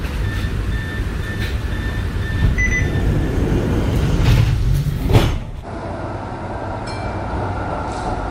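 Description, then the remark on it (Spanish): A Melbourne tram rolls along with a steady low rumble and rattling, faint whining tones above, then a brief loud clatter before the noise settles into a quieter hum. No one speaks. “Estos sonidos característicos del sistema de tranvía de Melbourne han acompañado durante los últimos 41 años”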